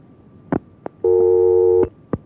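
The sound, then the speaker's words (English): A telephone busy signal from a call attempt on the phone lines at radio station KFAR sounds as one steady electronic tone lasting under a second, bracketed by sharp line clicks before and after, loud with no talking. “That one gave up. So until we get the phone lines working here, we'll do this.”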